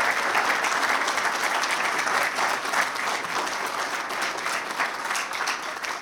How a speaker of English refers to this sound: If you are an Eagle Scout, I would like you to stand. I think we should give those gentlemen a round of applause.